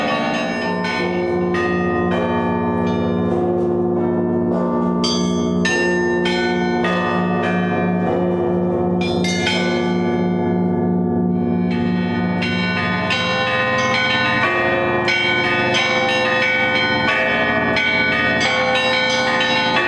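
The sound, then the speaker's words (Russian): Church bells of a lavra bell tower in Russia ring loudly and continuously, several bells struck in quick overlapping peals, their rich ringing tones layering into a dense, sustained clamor with no voices. “наша Россия, которая, надеюсь, к этому уже опять придет с возрождением и звонов”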